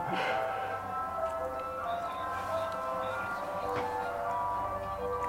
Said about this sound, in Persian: خب بچه، بذارین چیز خیلی جالب در مورد این صدایی که از بیرون اومد براتون بگم. اینا یه ماشینای بستنی فروشی هن، اصلا معروفن توی اسکاتلند.